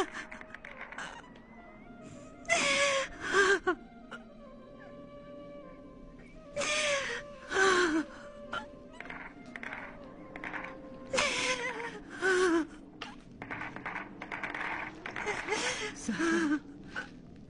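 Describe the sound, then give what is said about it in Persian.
A woman sobs and cries, her wavering, strained voice broken by sharp, breathy gasps that come in repeated bursts throughout. “گریه نکنی، تو خودت همیشه ما رو من میکنی، حالا خودت داری همون کارو میکنی.”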